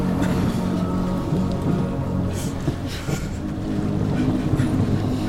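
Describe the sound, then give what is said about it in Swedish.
Tengil's enormous, all-gold boat with more oars than could be counted, moving on the water as its oars strike the dark water again and again, with a steady low rumble, sloshing water and a few louder splashes over a constant wash of wind. No one speaks. “Tengils båt var enorm och helt i guld. Den hade fler åror än jag kunde räkna.”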